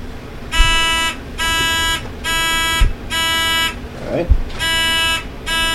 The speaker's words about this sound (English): Welcome to round one of the 2006 NQT High School National Championship. This match features Bentley on my left versus Governor's School A to my right. Both teams are ready to begin the match. Can I have a buzzer check first? Please do.